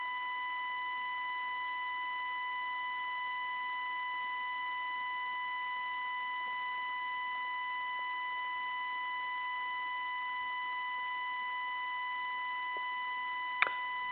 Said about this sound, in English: Every once in a while there's a beep, but other than that, it's just a buzzing sound.